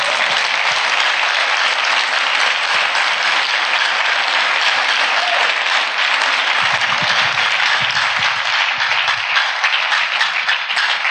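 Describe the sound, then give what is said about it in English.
A crowd applauds steadily for about eleven seconds, a loud, dense wash of many hands clapping at once without pause, clapping in praise of Jesus during a sermon. “Can you clap for Jesus for what he has done?”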